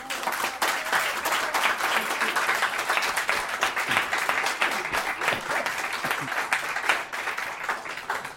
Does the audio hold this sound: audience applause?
yes